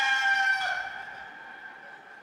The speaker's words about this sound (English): Do we have the rooster? Can you play that rooster? Let me hear the rooster.